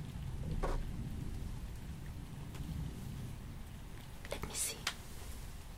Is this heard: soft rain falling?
yes